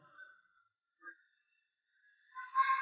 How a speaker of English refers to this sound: Wow. This is something. I think this... Can you hear that escalator sound?